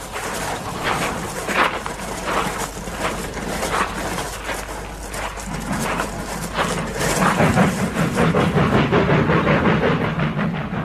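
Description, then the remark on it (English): A train rumbles steadily at railway sidings with a rattling, clanking rhythm over a deep low drone, growing heavier and louder toward the end, with no voices. “There's railway sidings over there.”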